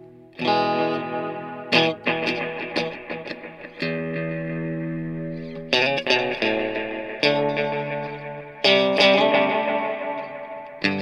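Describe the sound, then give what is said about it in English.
A clean electric guitar, played with no distortion through an effects unit set to repeat, rings out strumming a handful of sustained chords, each left to shimmer with a chorus-like wash and light echo before the next one lands. No voices are heard. “I don't even know if I can play guitar.”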